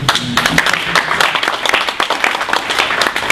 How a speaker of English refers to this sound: I think we have to applaud to this.